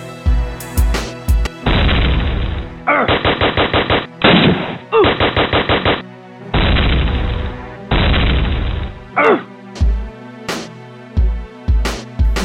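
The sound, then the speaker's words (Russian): Long, loud bursts of rapid machine gun fire crackle in quick succession, broken up by sharp single shots, with a steady musical backing sounding underneath; three shooters open fire on a helicopter. “Открыли огонь по нам сразу трое, но мы с тобой будем драться до последней капли крови”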